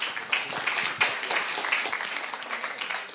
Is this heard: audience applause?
yes